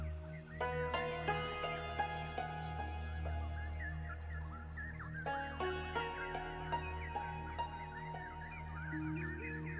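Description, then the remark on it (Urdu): Birds chirping busily and continuously over a steady low hum, with bright twittering calls scattered throughout and a few sharper, louder notes breaking in; no one speaks. “یہاں پر چڑیوں کی خوبصورت اور مسحور کن آوازیں سنائی دیتی ہیں.”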